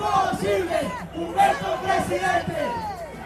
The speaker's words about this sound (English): Blocks away in the capital's main Bolívar Square, crowds are gathered for another candidate's rally. A stage fit for a rock star is being readied to receive 55-year-old former vice president Germán Vargas Lleras.